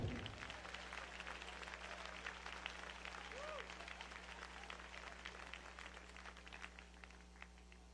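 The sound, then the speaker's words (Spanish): A crowd claps steadily for several seconds, a dense, sustained wash of applause at an even level, with a few voices calling out faintly within it and a low electrical hum underneath. “Ponle un poquito más aplauso a ver si te doy lo que sigue.”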